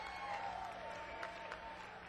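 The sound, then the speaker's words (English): Steady applause from an audience at a live music show in Los Angeles, a dense wash of clapping that holds evenly for a couple of seconds at moderate volume. “Give yourselves a round of applause for supporting live music in Los Angeles.”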